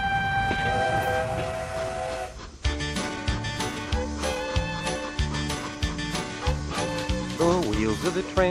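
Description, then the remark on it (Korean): A train horn sounds in long, sustained tones, followed by the rhythmic clatter of a train running along the rails, loud throughout, on a cross-country train trip across the United States. “자, 이번에는 아만다 씨와 함께 미국 대륙 횡단 기차 여행 떠나보시죠.”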